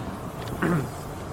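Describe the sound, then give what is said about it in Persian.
Steady, moderate road rumble and wind noise from riding in an electric shuttle car at Bam-e Tehran in Tehran, on the 2 km road called the Health Road, with a brief rising whine midway through. “ما الان سوار این ماشینای برقی دیگه.”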